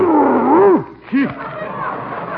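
A huge dog named Fritz growls and roars in two bursts: a long, loud, wavering roar followed by a shorter one, then softer rumbling with faint murmuring behind it.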